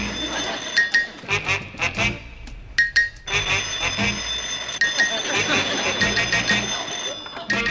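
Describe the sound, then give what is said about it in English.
A telephone bell rings in a steady, bright metallic trill that keeps going throughout, with voices talking over it in short bursts. “Answer the phone, Ralph.”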